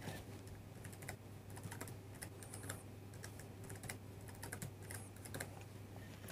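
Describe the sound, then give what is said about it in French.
Quiet, uneven keystrokes on a computer keyboard as a password is typed in for a newly created user account, a run of soft clicks with brief pauses over a low steady hum, and no one speaking. “Allons-y, mettons son mot de passe.”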